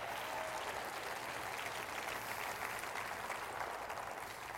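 An audience at Église Nouvelle Vie applauds in praise of God, a dense, continuous wash of many hands clapping steadily at an even loudness for several seconds with no voices standing out.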